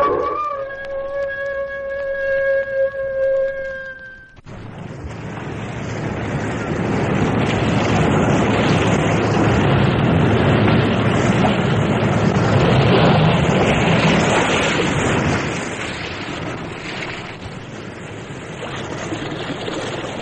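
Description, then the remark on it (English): A few seconds of sustained tonal chords give way to a loud, continuous roar of restless sea waves surging in a sea cave, rising and swelling steadily with a hollow, windy rush, opening The Weird Circle; no voices. “In this cave by the restless sea, we are met to call from out of the past stories, strange and weird.”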